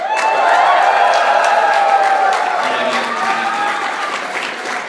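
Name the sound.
audience cheering and applause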